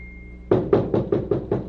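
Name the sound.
knocking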